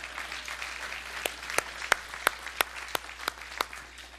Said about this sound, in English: Could we say amen to that? That's worthy of a hand clap.